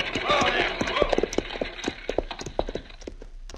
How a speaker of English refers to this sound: All right, Shorty, pull up them horses.